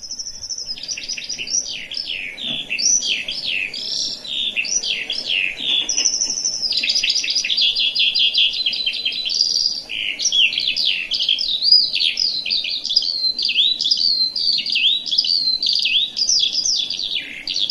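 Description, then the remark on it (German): A recorded songbird played back sings continuously for the full length, a rapid, unbroken stream of high warbles, trills and chirps with no pauses, loud with no one speaking. “ich lass mal einmal den Vogel laufen, dass man den auch mal hört hat.”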